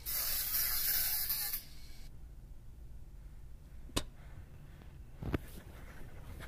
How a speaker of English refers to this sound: It's just cornstarch, same thing. But it looks like it's melted, like dripping down. But the point is to get the attention, have a bright color. 22, and I've just sprayed two private jets orange.